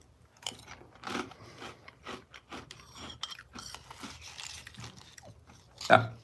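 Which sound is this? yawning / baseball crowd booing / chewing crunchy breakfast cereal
chewing crunchy breakfast cereal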